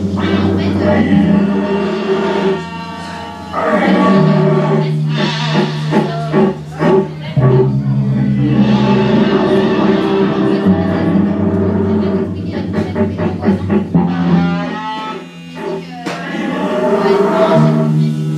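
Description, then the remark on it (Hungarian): A man imitates the herding call of a rutting red deer stag in September, the sound a stag makes driving a straying hind back: a series of long, deep, throaty groaning bellows, loud, with brief breaks between drawn-out roars. “A bőgés intenzívet szeptember között a pályán akkor lehet hallani a terelő hangot, amikor a három basa, a pika értékenyen visszatereli a új ütözét, a elkóboró tehenet. Ennek a hangját utánzom”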